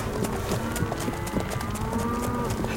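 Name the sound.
cow mooing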